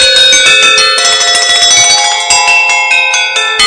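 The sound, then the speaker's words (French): Bright, ringing metallic tones from metal percussion struck with mallets in quick succession, with sustained overlapping bell-like overtones shimmering throughout; loud, with no voices. “Et mais ça peut être ça, mais avec ces baguettes-là, c'est plus du tout.”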